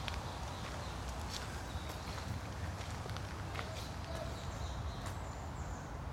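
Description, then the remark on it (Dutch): Steady footsteps walking along a path in De Nieuwe Ooster cemetery, going around a roundabout, each step a soft crunch in an even rhythm, with faint birdsong and a low outdoor hum in the background. “We blijven op het pad, lopen de rotonde verder langs.”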